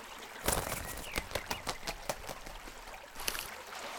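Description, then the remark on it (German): A raccoon scrubbing and sloshing a T-shirt in river water upstream, with irregular splashes and drips over a steady background of flowing water; no voices. “Ja, er wäscht gerade dein T-Shirt weiter oben am Fluss.”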